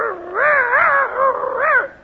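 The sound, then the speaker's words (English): A person imitates a dog, letting out three drawn-out, wavering bark-like yelps, fairly loud and run together, with no other talking. “You know, I think we should have got a real dog for this part.”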